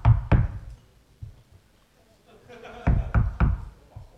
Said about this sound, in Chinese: 到了那个小院边上，我一样一样把东西卸下来，到这儿了敲门。